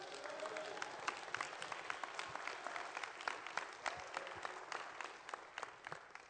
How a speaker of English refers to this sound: Give the Lord a big clap, please.